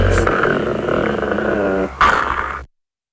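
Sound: puppies growling and yipping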